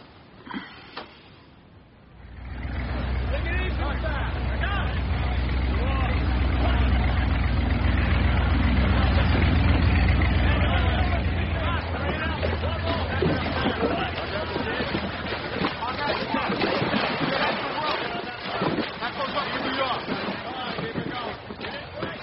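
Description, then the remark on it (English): Deep, steady engine rumble of boats and trucks idling at a beach at night, where boats come back loaded with liquor to be moved to trucks, swelling in after a quiet start and then thinning into a busier, clattering mix with indistinct voices underneath. “They send our boats out, they come back full of booze. From the beach here to the trucks.”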